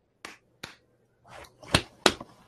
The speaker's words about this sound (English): Just me? Okay. I clapped.